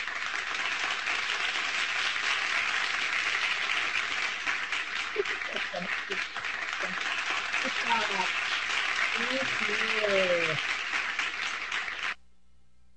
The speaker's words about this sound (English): Now, with that, if we'd been in the church, we all would have been clapping. So I just ask you just to clap a little bit at home. Clap for each other.